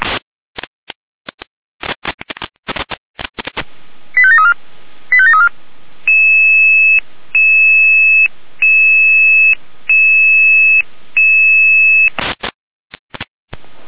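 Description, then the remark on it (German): Radio alert tones alarming emergency units in Jena sound after a burst of crackly clicks and two short warbling chirps: a loud, steady electronic tone repeats in evenly spaced pulses, about five times, with no voices. “Jena mit Alarmierung.”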